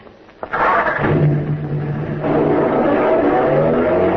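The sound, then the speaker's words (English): A car engine cranks over and catches with a sudden roar, then settles into a steady rumble as the vehicle pulls away and keeps driving. “Well, let's get on home, McGee. This has completely worn me out. Me too. You got the car keys?”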